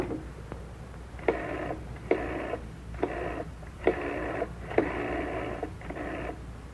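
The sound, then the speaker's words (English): A telephone being dialed: six short electronic dial tones in an uneven sequence, each lasting about half a second, moderately loud over a faint background hum, with no talking. “Now the phone.”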